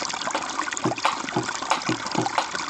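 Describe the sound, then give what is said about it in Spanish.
Steady rushing of river water flowing, a continuous bright wash with small bubbling gurgles rising and falling throughout, no voices present. “Hoy el río suena, hoy el río canta, agua.”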